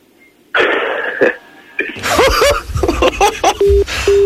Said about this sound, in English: And there you go, phone goes down.